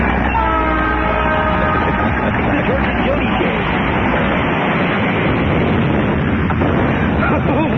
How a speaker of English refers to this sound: The train wreck sound effect. Train wreck. Yeah. Sounds like a train wreck.